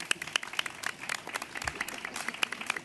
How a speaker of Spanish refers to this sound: Un aplauso.